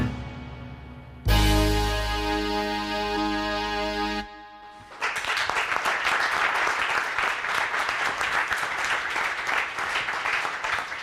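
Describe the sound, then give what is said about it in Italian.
A brief sustained musical chord sounds, then after a short pause an audience in an auditorium breaks into loud, dense applause that continues steadily, many hands clapping together until the end. “L'applauso è quello del pubblico convenuto per questa nuova puntata di Modem Evento”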